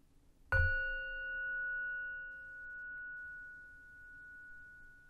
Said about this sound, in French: Et la cloche sonnera une fois au début et une fois à la fin de cet exercice.